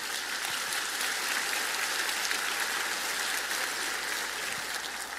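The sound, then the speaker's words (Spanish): A church audience applauding together at a sermon, a dense, steady wash of many hands clapping at an even level throughout, with no voices rising above it. “Un aplauso fuerte.”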